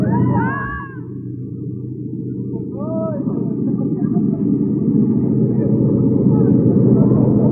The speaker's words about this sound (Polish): Kołyszę bardzo tym samolotem, ale podejrzewam dlatego, że my po raz pierwszy lecimy. O, to celowo robi. O, tak.